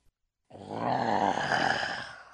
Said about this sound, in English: A loud heffalump growl interrupted them.